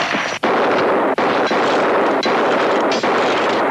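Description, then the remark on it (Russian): A loud volley of revolver gunshots in a film scene, Sundance (Redford) shooting the holster off a losing player and driving the dropped revolver into a corner: about five sharp cracks at uneven intervals, each ringing into a dense, roaring echo, with no voices. “Тут же с него слетает сбитая выстрелом Санденса кобура, четыре следующих загоняют в угол отлетевший револьвер.”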